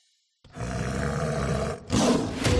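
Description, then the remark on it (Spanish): A big cat lets out a loud, deep, rumbling roar lasting over a second, then after a brief pause a second harsher, rasping burst follows. No one speaks. “Hay un nuevo felino en la ciudad.”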